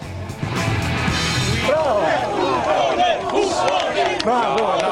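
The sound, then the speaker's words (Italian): A crowd shouts angrily at Librandi, a guest, at once, many overlapping voices yelling and jeering in a loud, continuous, hostile clamor with no single voice standing out. “Ancora la folla contro Librandi, che a un certo punto si incazza pure con Del Debbio e dice: ma come?”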